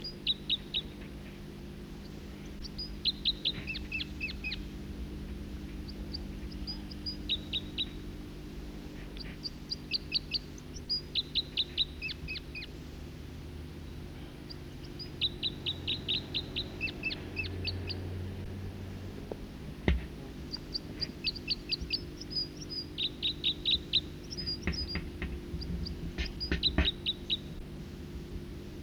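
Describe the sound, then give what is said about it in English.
Repeated bursts of high, thin chirping song from a second songbird in song flight, about 50 meters away, several rapid notes per phrase, recurring every couple of seconds over a steady low hum; no voices. “Other birds coming in now, song flight of a second bird.”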